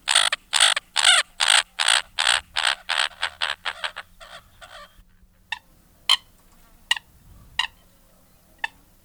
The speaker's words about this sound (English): Now we're going to hear the American coot. This is going to sound almost like a chicken. It's really striking, but let's give a listen.